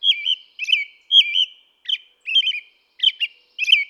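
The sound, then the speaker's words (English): An American robin sings its daytime song: a steady series of short, rich whistled phrases, each one varied, with brief pauses between. Clear, with no other sounds. “During the day, an American robin sings a lovely, familiar song of rich phrases.”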